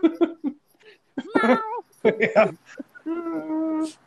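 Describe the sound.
A person imitates a cat, letting out a few short vocal bursts followed by several drawn-out, wavering meows, fairly loud and separated by brief pauses.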